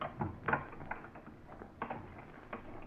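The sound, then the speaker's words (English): A house door lock being worked open to get inside: a run of small metallic clicks and scrapes with a few sharper rattles, fairly quiet, with no one speaking. “Go on, get the door open.”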